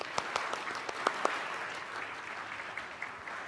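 An audience applauds with a dense, steady patter of many clapping hands, a few sharper claps standing out early on, sustained at moderate volume for several seconds with no talking.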